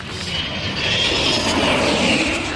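airplane flying

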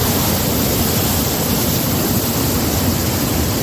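swollen river rushing water

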